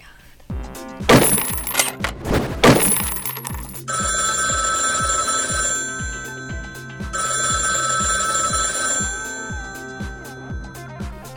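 A telephone rings with a bright, steady electronic trill in two long bursts, repeating its pulsing ring pattern over a rhythmic backing, after a brief clattering jingle at the start; no one speaks.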